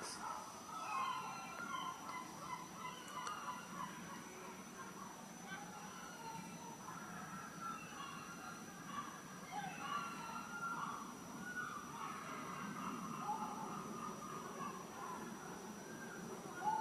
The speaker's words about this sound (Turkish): Ve kuşlar yavaş yavaş imsak vakti yaklaştıkça çığlıklarını artırıyorlar.